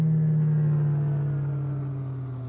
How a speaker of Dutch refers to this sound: Kijk nou eens even, zegt dat hele geval trilt als een espenblad. Het is weer zo'n poging om op te stijgen.